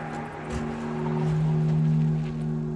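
police car approaching

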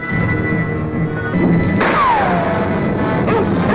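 rifle gunshot

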